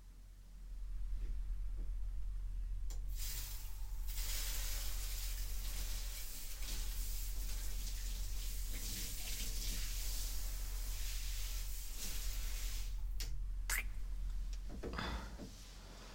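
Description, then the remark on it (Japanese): A steady shower spray hisses continuously for about fourteen seconds, rinsing soap foam off, with a few faint clunks and splashes near the end before the water cuts off. “一回シャワーで泡流そうか。”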